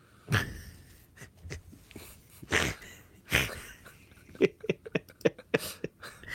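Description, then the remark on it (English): A series of sharp, explosive sneezes, three loud bursts spaced a second or two apart, followed by a flurry of short, quieter clicks and sniffs. No one speaks. “God bless you”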